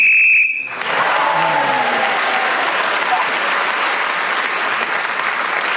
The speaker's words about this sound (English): Right, so Josie Long was speaking then when the whistle went and gained that extra point for doing so.